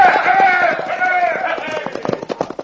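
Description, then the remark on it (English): Several horses (cayuses) ridden by a group of men break into a gallop, their rapid, drumming hoofbeats growing sharper and more distinct. Shouts or whinny-like cries ring out over the start of the hoofbeats. “Turn them cayuses, boys, and let's ride!”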